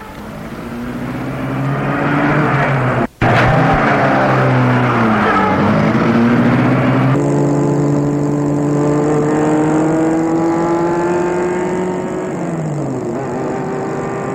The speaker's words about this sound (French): Et met la voiture en route.